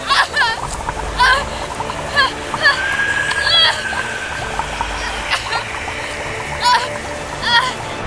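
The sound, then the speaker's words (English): Black water in a bathtub churns and splashes nonstop, bubbling and gurgling as it boils violently and overflows onto a tiled floor, with sharp squeaky bursts popping up through the steady wash. “The bathtub quickly filled to the brim, and the black water oozed onto the tiled floor. It boiled violently.”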